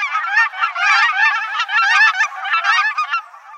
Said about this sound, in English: Not only do cackling geese sound different, they look different from Canada's.